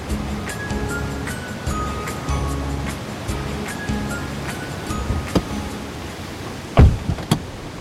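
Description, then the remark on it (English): A steady, rushing wash of ocean surf at Ocean Beach in San Francisco, looking out at the Sutro Baths, with a faint mechanical hum in the background and a couple of sharp knocks near the end. “So we're near Ocean Beach in San Francisco now.”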